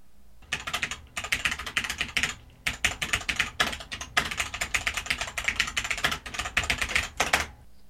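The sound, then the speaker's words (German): Rapid typing on a mechanical keyboard, a dense, continuous clatter of sharp key clicks in quick bursts with brief pauses, fairly loud, with no voices. “dass es sich bei meiner Geschwindigkeit wie ein Maschinengewehr anhört, wenn ich tippe.”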